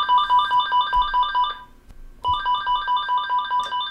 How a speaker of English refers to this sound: hours would sometimes pass before the phone would ring at his Northwoods Real Estate Company in Millinocket.